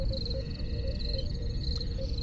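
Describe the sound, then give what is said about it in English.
Crickets chirp in a steady, high-pitched trill that pulses faintly throughout, layered over a constant low rumbling background with no voices. “And the cricket sound just happened right there.”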